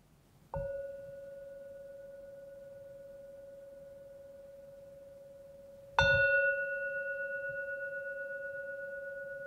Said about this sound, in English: I think we are coming to the end of the meditation. When I ring the gong 3 times, please open your eyes.